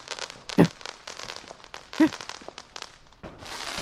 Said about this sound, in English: Was it the personal ones, the amateur ones? I'm not sure because whoa. Oh, because I was asleep and I heard the fireworks and then I heard this.